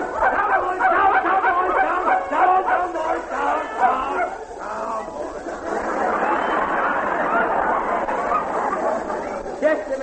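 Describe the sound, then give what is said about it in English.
A pack of hunting dogs chasing a fox barks and yelps continuously inside a bedroom in Maine, many excited voices overlapping into a loud, dense clamor that barely pauses over ten seconds. “What are you doing here in my bedroom with these dogs?”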